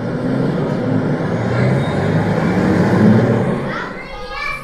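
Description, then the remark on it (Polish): Busy city street ambience: a steady low rumble of cars and heavier vehicles driving past, with indistinct voices in the background and a brief higher squeal near the end. “Auta jeżdżą, co tam jeszcze? Miasto. To jest miasto, właśnie, bardzo dobrze.”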